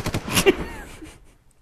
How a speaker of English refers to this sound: the shotgun sounds so pathetic, but the echo sounds so loud.